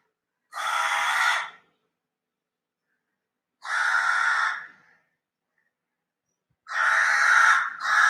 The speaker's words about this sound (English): That is the crow which comes in the evening and asks for water.